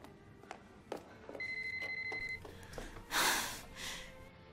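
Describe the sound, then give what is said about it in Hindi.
A phone rings with a short, rapidly pulsing electronic trill lasting about a second, followed by a loud breathy rush like a gasp; no one speaks. “Phone उठा के बात करो, देखो क्या कहता है।”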